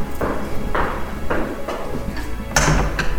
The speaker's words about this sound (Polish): Wszędzie takie ciężkie, drewniane drzwi. Tak, no bo to jest zamek średniowieczny.